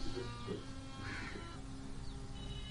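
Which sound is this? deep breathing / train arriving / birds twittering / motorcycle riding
birds twittering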